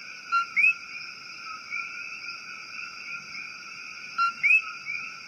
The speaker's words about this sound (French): Elle est célèbre à Porto Rico en raison de l'appel de séduction que les messieurs grenouilles entonnent durant la nuit, du crépuscule jusqu'à minuit. Un appel auquel la grenouille doit son nom, coqui. Écoutons son chant nocturne de troubadour.